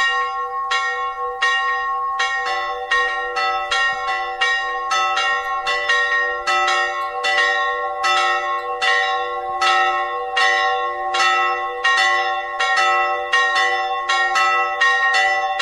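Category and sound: signal or alarm, church bells ringing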